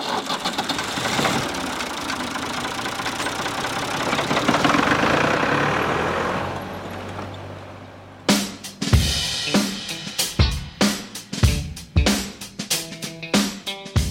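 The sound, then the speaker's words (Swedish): A heavy tractor engine roars under strain for several seconds as it pulls a large competition sled that grows heavier and heavier, loud and steady, then drops away and gives way to a series of sharp, rhythmic punchy bursts. No one speaks. “En traktor kopplar, backar in till den här stora släden som du har tittat där inne på.”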